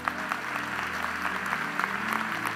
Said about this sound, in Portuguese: Se eu fosse você, aplaudia a ele.